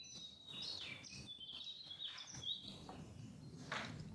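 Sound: birds singing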